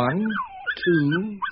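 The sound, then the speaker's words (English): Four puppies whimpering in a basket: a few wavering, high-pitched whines that rise and fall, with brief gaps between the cries and no talking. “1, 2, 3, 4 puppies.”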